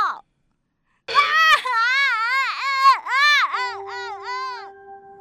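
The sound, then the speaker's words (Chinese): A child wails in pain, loud, a long anguished cry broken into rising and falling sobs that continue without pause after a brief moment of quiet, after falling from a father's hands while jumping on a bed mattress and hurting the right wrist. “妈妈听到了哭声，跑进房间，”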